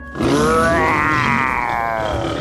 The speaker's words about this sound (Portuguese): Um poderoso. O rei dos animais. O leão!